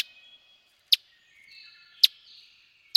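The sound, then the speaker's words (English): A Kentucky warbler's song: thin, high tones with three sharp, bright notes spaced about a second apart, fairly faint, with no other sounds around it. “But these charismatic little birds can use our help.”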